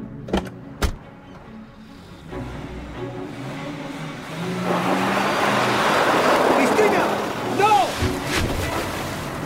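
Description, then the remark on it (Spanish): A car rolls forward and plunges into water, a broad rushing splash swelling midway and then giving way to gurgling, bubbling sounds as it sinks, with a few sharp knocks early on. “¿Te gusta tirar cosas al agua?”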